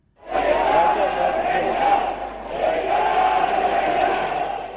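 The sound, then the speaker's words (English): A jubilant crowd in Tehran, Iran, greeting newly elected president Masoud Pezeshkian at the shrine of the founder of the Iranian Revolution, cheers and shouts together in a dense, sustained roar of many voices, loud and steady for several seconds with a brief dip midway before swelling again. “Where a jubilant crowd in Tehran greeted the newly elected president, Masoud Pezeshkian, who gave a short address at the shrine of the founder of the Iranian Revolution.”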